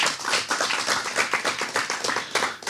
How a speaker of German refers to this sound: Zuerst einmal, danke, einen Applaus. Merci vielmals. Für die Bereitschaft.